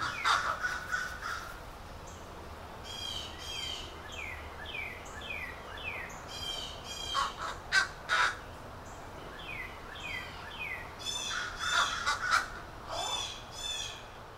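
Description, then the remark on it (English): Crows caw repeatedly in harsh, ragged bursts while blue jays call in quick rising series, the birds clustered in noisy flurries in a neighborhood against a steady outdoor background hiss. “In the following recording, you hear crows, plus blue jays devoutly watching everything.”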